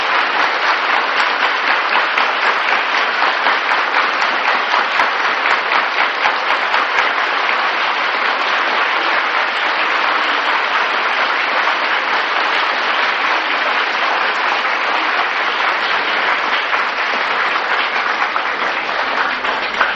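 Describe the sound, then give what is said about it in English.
An audience claps steadily and densely for about twenty seconds to greet someone, a loud, continuous wash of many hands with no talking, holding an even level from start to finish. “when you clap your hands in front of the deities, then the birds of sinful reactions fly away”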